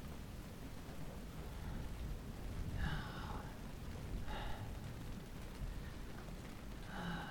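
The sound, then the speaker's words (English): Steady, dense rain hisses throughout with a low rumbling undertone, like a downpour; a few brief breathy gasps rise above it now and then, but no one speaks. “Wonder how long we're lying in the rain.”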